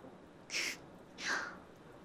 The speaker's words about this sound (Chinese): 你刚才咳嗽了吧？这个时候向狐狸大人祈祷比较好，因为狐狸的哭声也是这样的。